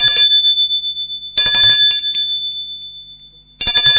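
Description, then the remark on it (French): An apartment doorbell, pressed by the boss, rings three times in bright, metallic bursts, each one buzzing briefly and then fading out in a high, ringing tone before the next press. No one answers or speaks. “Le patron sonne à la porte de l'appartement de Maurice.”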